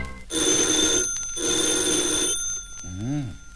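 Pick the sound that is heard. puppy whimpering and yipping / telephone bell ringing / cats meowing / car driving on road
telephone bell ringing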